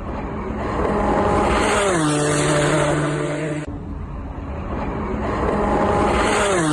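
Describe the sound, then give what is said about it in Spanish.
Alonso's Toyota race car roars through Turn 1 at Sebring, engine pitch dropping as it downshifts and then climbing again as it accelerates away, loud, with a steady mechanical drone. “Y fíjate cómo pasaba el Toyota de Alonso por la curva 1 de Sebring.”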